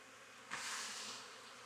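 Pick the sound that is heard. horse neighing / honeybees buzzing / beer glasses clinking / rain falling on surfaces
honeybees buzzing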